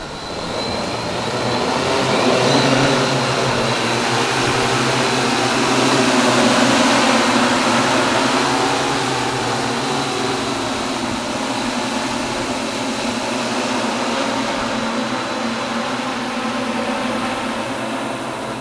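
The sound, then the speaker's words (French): A steady, continuous mechanical whine and buzz of multirotor drone motors, holding a sustained tone with slight swells in loudness over nearly twenty seconds, with no voices. “Des multirotors ou tricoptères, pour un tricoptère, quadrocoptère, hexacoptère, octocoptère et deux décacoptères, voilà, pour à chaque fois le nombre de moteurs.”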